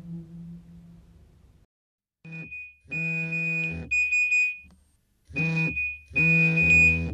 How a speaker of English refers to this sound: The everyday sound of a mobile phone alerting its owner to an incoming text message. In the London offices of the World Food Programme, where the message was received, it's a sound heard on and off all day long.